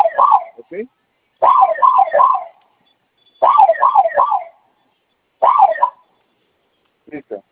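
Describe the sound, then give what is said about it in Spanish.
A home security alarm siren, set off by pressing its two fire buttons together for five seconds, sounds in repeated bursts of rising-and-falling wails, three or four cycles per burst, separated by short pauses, piercing. “esos dos botones de fuego o de flamita, como usted lo quiera ver, los vamos a presionar los dos al mismo tiempo por 5 segundos. Okay. Va a sonar su alarma y vamos a ingresar su clave.”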